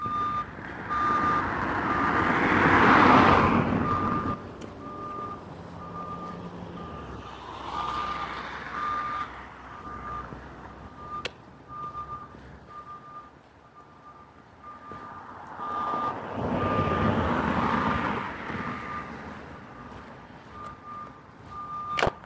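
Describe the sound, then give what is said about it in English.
A steady series of high reversing beeps repeats at an even pace from a crane working on a building site for a new house, over rumbling heavy machinery that swells and fades in two long surges, outdoors on an overcast, wet day around 32 degrees with snow and ice on the ground. No one speaks. “There's a crane working on the building site over here. That's what that beeping sound is.”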